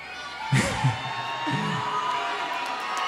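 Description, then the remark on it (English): A crowd lets out a few scattered, low-pitched boos at the mention of the school week, two short drawn-out groans in quick succession, over a steady background murmur of audience noise. “Wait, hold on, what are you booing? You booing school?”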